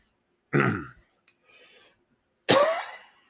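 Someone clears their throat twice, loud, while putting a cough drop in, with a small click and a faint breathy rustle in the pause between the two rough bursts.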